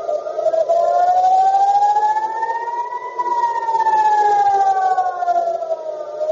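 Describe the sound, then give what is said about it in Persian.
A loud air raid warning siren wails steadily in central Israel, Tel Aviv and part of the West Bank during a missile attack aimed at Ben Gurion airport, its tone slowly rising and then falling in a long sweep, with a rumble of background noise and no voices. “در زمان حمله، مسیر چندین پرواز تغییر کرد و صدای آژیر خطر در مناطق مرکزی اسرائیل، تل‌آویو و بخشی از کرانه باختری به صدا درآمد.”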